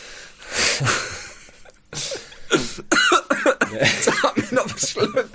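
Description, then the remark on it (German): A person who has just choked on saliva coughs hard in several bursts, followed by strained, wheezy breathing and raspy throat sounds, loud, with a voice trying to speak between the coughs. “Jetzt hat mich noch verschluckt.”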